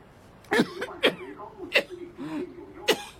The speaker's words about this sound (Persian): چقدر سرفه میکنین؟ اونم سرفه های خشک. چیزی نیست، چیزی نیست. از کی دارین اینطوری سرفه میکنین؟